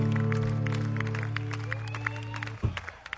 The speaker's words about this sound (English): And don't forget about these gents over here playing some music in between sets. Let's have a round of applause for those boys over here too.